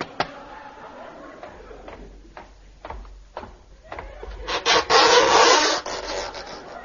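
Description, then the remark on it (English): A series of sharp, hollow knocks on an oyster shell, spaced at a steady, unhurried pace, followed by a louder grating, scraping rasp near the end. No one speaks. “I'll knock on this oyster.”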